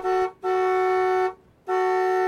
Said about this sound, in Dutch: Precies op dat moment raakt hij per ongeluk de toeter. Dat maakt heel wat kabaal.